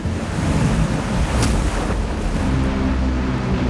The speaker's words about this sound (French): La grosse marée de tempête que l'Amérique n'ait jamais connue s'abat sur les digues qui entourent la Nouvelle-Orléans et les détruisent.